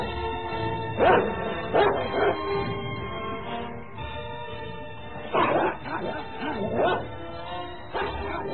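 A neighbour's dog barks at a man in short, loud bursts, lunging forward and backing off, clustered in two volleys separated by a brief lull, with a low rumbling growl underneath between the barks.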